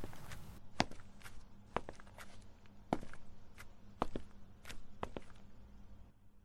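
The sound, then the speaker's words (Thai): Slow, steady footsteps climb a staircase in a house up to the upper floor, about seven heavy thuds roughly a second apart, clear over a faint background, with no voices. “เดินมาถึงชั้นบนเห็นประตูห้องน้องอีกเปิดแง้มอยู่”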